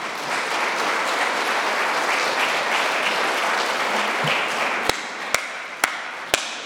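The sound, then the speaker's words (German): People applaud their volunteers steadily, a dense wash of clapping that holds throughout, with a few sharp, louder taps near the end as it continues. “Vielen Dank und nochmal den Applaus für unsere Ehrenamtlichen.”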